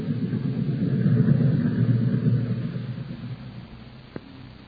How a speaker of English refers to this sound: Hey, here comes the train.